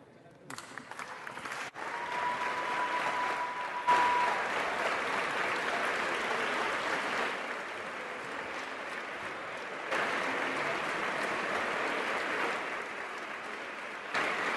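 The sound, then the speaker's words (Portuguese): Sustained applause from an audience at the close of the national session of the Youth Parliament (Parlamento de Jovens), a dense, steady wash of clapping that carries on loudly for the whole stretch with only slight swells and dips. “Agora um forte aplauso, por favor.”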